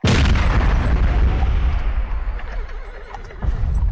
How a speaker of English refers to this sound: The sound of an explosion in their 600-year-old castle. Basically, all we have is the west wall there with the two towers. The whole other half, that's gone.